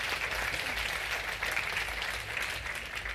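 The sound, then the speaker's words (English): An audience claps steadily for a few seconds, welcoming a speaker up to give an overview of the issues behind palm oil: a dense, even patter of many hands with no voices rising above it. “So can we give him a little round of applause and welcome him up?”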